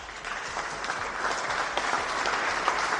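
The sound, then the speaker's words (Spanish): An audience applauds Macron's words on a renewed partnership during his visit to Algeria, many hands clapping in a dense, even wash of sound that stays fairly loud throughout, with no voices standing out. “Una renovada asociación, decía Macron, entre los aplausos de unos y otros.”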